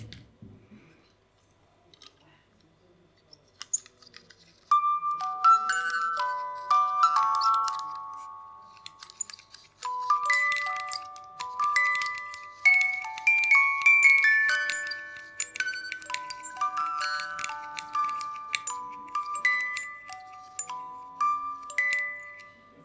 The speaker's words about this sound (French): Une boîte à musique Zelda.